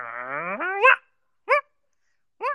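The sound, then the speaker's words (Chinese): Someone imitates an angry dog: a drawn-out, rising growl-like whine, then two short, sharp bark-like yelps separated by brief silences. “喵喵喵，如果你那个的话就像狗狗生气一样。”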